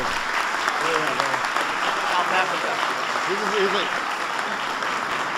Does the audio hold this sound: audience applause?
yes